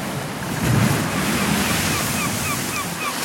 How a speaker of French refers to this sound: Si j'étais un son, je choisirais le bruit des vagues qui éclatent sur la côte ou sur la coque d'un bateau.